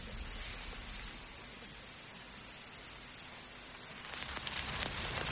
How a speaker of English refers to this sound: Would you draw the curtains? Shut out the wind and the rain.